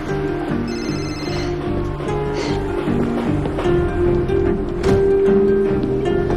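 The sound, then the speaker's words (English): A cell phone rings with a short electronic trill after a man dials a call, heard over a steady bed of background music at moderate volume; no one speaks. “He takes out his cell phone and dials.”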